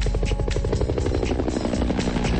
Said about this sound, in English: A chopper flies over.